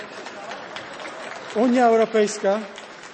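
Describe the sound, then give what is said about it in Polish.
An audience applauds during a political speech about Poland and the European Union, a dense, steady patter of clapping, and partway through a voice starts speaking over the continuing applause. “Oklaski.”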